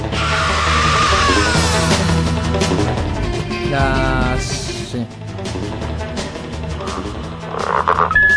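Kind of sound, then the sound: animal, frog croaking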